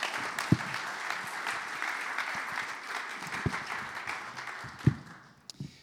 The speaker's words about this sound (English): Round of applause